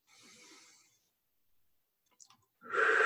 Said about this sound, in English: Just pay attention. See it coming in, going out. Deep breath together.